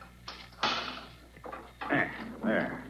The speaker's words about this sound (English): Come, Glidden, unlock the door. This is an intricate lock, Waldemar. It takes careful handling of the key.